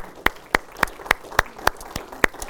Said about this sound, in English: And I'm thankful for these ladies and what they mean to our church. Amen. Would you join me in a big round of applause for our moms, please?